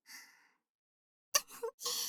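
Soft, breathy snoring from a person who fell asleep during ear cleaning: one drawn-out exhale, a pause of quiet, then a sharper snort-like intake followed by another airy breath, fairly gentle, with no talking.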